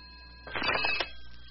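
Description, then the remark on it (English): A single short telephone ring, about half a second long, sounds in a hobby shop against a quiet background with a faint steady hum. No one speaks. “Uh-oh, there's the phone. It might be a customer.”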